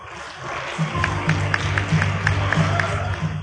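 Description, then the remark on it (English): An audience applauds steadily for two doctors being introduced, a dense wash of clapping with sharper claps recurring in a regular rhythm, over a low humming murmur of the crowd that starts partway in. “Ladies and gentlemen, a big applause for the doctors”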